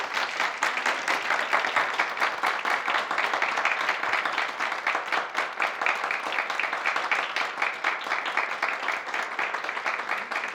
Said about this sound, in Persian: تا جایی که میتونید تشویقشون کنید.